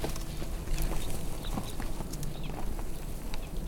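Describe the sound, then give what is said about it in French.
Steady footsteps crunch along a dirt path, each step a soft gritty thud in an even walking rhythm, with no voices. “Le chemin est en terre, car plus exposé au soleil.”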